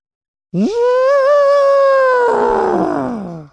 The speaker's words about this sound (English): Was that real or did you play the button? If you go to the zoo this weekend... That's what the elephant sounds like.